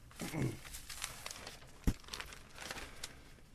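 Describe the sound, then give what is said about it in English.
Papery rustling and crinkling of pages from the first section of the day's newspaper being handled and set aside, with a brief soft thump near the middle, quiet and steady throughout. “I'll set these pages aside”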